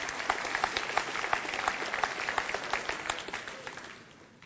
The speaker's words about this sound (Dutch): Ja, mag alvast klappen.